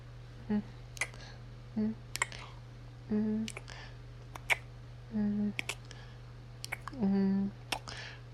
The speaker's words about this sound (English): Only kisses? Okay, I would love to.